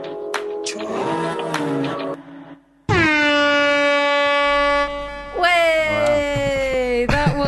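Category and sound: sound effect, foghorn sound effect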